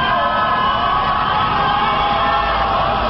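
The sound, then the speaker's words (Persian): A large crowd of protesters against the results of the presidential election of the year 88 chants "Allahu Akbar" at night from the rooftops and terraces of their homes, a dense, steady wall of overlapping voices that stays loud and unbroken, with shouts and yells blending into the roar. “تنها یک شب بعد از انتخابات ریاست جمهوری سال 88، معترضان به نتایج این انتخابات روزها با نشانه های سبز به خیابان آمده و شبها روی پشت بام یا تراس خانه هایشان الله اکبر می گوید.”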